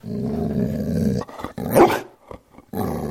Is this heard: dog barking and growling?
yes